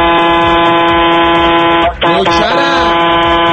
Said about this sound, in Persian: بابا دمت گرم، میخوام دو تا بوق تریدی برات بزنم از برنامه خشید.